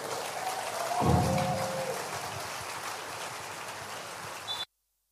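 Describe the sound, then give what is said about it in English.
A church audience claps steadily for several seconds in a dense, sustained wash of applause, with a brief high whoop rising above it early on, before the sound cuts off abruptly. “Come on, sustain the clap.”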